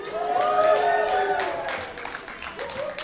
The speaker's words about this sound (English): But do you see how naturally that cheer came?